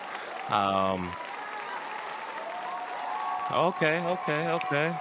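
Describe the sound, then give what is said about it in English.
Steady, dense clapping from a crowd runs throughout, with loud voices cheering and whooping over it in a burst near the start and again in several shouts toward the end. “Throw them claps. Yeah. Claps. Yeah. A little cheer.”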